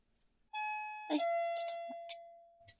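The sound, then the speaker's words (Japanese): A doorbell chime rings out as an Amazon delivery arrives, with a sustained, ringing tone that decays slowly over a couple of seconds, while a person talks briefly over it. “ピンポン来たんだけど。”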